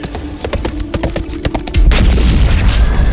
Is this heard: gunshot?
yes